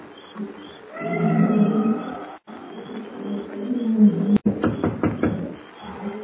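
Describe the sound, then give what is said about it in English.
At night in a matted jungle, a steady insect drone hums throughout while nocturnal beasts bay and roar in long, wavering, low-pitched howls, loud and overlapping, with a few sharp knocking pops near the end. “The matted jungle is alive with the hum of insects and the weird baying of nocturnal beasts as Kent approaches Pango Pete's broken-down shack near the native quarter.”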